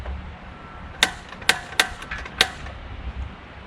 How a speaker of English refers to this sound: So, I'm gonna pop this on the grill. See my propane grill here? Just fire this up.